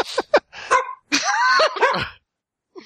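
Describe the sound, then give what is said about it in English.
A dog barks in a few quick, sharp bursts, then lets out a longer, whiny yelping bark before falling briefly silent and barking once more. “He's a little ornery tonight. The driver of the car. Hey. You got Shut me all now. Discombobulated, dog.”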